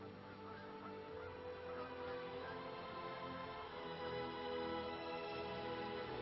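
birds calling

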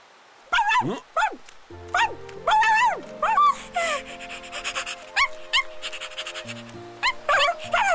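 dog barking and whimpering

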